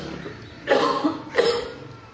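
A man who is feeling unwell coughs twice, two harsh bursts about half a second apart, with a faint background hush and no talking around them.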